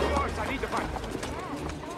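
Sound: horse galloping away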